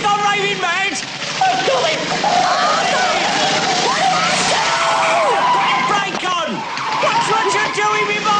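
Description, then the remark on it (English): Tyres squeal and screech continuously as a vehicle skids round in tight circles in a bus depot, narrowly missing a bus, the pitch sliding up and down, loud, with an engine roar and indistinct voices mixed in. “Olive screeches into the bus depot. She drives around in a circle, narrowly missing the bus.”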